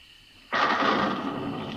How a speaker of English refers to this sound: What's that? Thunder, Clovis.